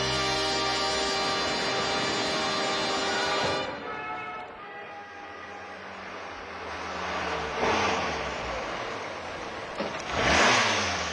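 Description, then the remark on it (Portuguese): A car engine revs loudly, the pitch rising and falling in strong harmonic bursts as the vehicle pulls up, with another surge of acceleration near the end. No one speaks. “Enquanto vais arrumar o carro, eu vou entrando, está bem?”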